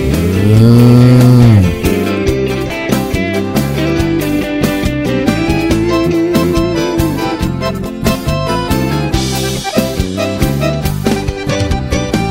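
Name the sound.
cattle mooing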